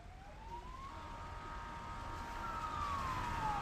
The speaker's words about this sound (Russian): Оказавшись снаружи, их сразу же оглушил вой сирен автомобилей различных служб быстрого реагирования.